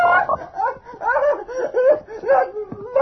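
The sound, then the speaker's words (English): A large frog croaks in a steady run of deep, throaty, warbling calls, loud and close, with no pauses and no voices. “It's only a frog, Genya.”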